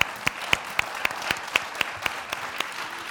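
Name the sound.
audience applause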